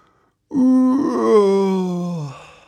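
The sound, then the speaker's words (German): In a children's audio story, a voice imitates wind howling outside in stormy, rainy weather, with one long, loud, moaning wail that holds steady for about two seconds, then slides downward in pitch as it fades out. “Da hört er draußen schon den Wind heulen und den Regen gegen das Dach plattern.”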